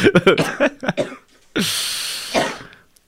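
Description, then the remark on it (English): A few short, throaty voiced grunts lead into a long, raspy, wet-sounding phlegmy chest cough with mucus, with a second rough heave near the end, fairly loud. “Like a phlegmy, like pain in the chest type cough.”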